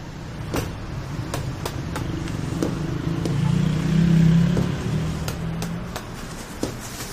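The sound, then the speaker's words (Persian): A car engine idles with a low, steady rumble, swelling louder midway as if pulling forward, then settling back, with scattered sharp clicks and knocks throughout, as the car is moved to another spot. “حجی یه ماشین رو جا به جا کن، افسر علم برگه می داره رو.”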